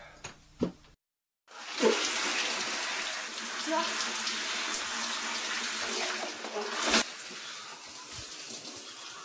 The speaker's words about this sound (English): Shower. Shower.